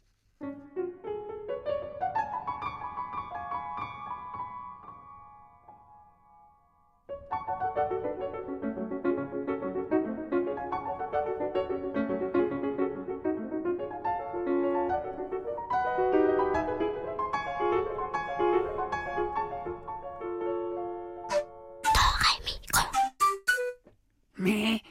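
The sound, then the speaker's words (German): A lively piano piece depicting a tiny Munich dwarf riding a wave on a surfboard, with rising runs and rippling melodic lines, briefly pausing before a fuller, busier passage resumes; it ends with a few sharp, noisy bursts. “Und wie der Münchner Stadtzwerg mit seinem winzigen Surfbrett auf der Welle reitet, das hören wir in diesem coolen Klavierstück.”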